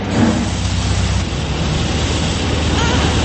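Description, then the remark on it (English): A steady, loud rush of spraying water fills the space as a car goes through a car wash, a continuous hiss over a low mechanical rumble, with no breaks or changes in intensity. “a little nervous as the car wash began. There was a lot of noise. Look! Water!”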